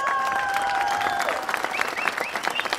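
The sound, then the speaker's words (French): A crowd applauds with dense, steady, loud clapping that fills the whole stretch. A held whistle-like tone rings out at the start, and brief cheers rise through the clapping later on. “Alors, une fois de plus, je veux pas être fatigant, mais calice, on applaudit toute la gang nationale!”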